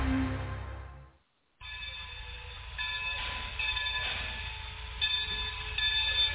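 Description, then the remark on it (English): Steady low rumble of a moving train, heard from inside, with sustained high-pitched tonal whines layered on top after a brief moment of silence near the start. No one speaks. “Getting ready to hop off the train once again.”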